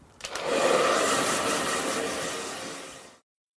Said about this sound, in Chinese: 这是一台吹风机，我在吹头发。